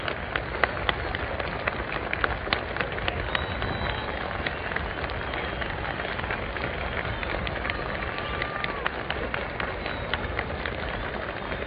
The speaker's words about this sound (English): The president is standing there now at the speaker stand, acknowledging the plaudits of the crowd, bowing, about ready to speak, and here he is.